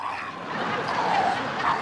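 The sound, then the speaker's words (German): A dog whimpers and gives a few short yipping barks against a steady background hum, moderately loud, with no one talking. “Der Hund bleibt da.”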